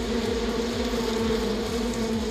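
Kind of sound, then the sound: insect, bees buzzing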